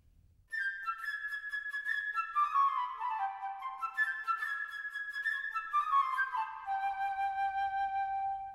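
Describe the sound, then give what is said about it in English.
A solo flute plays the bird's theme from Peter and the Wolf: a quick, bright, chirping melody, with rapid high notes tumbling downward in repeated runs, clear and fairly soft, with no voices. “The bird by the flute.”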